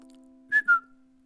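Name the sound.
person whistling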